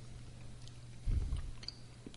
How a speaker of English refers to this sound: Probably use a molar to crunch it. Now, I'm getting a much more pronounced cinnamon, classic cinnamon flavor. You got to get it in between your molars and crunch it.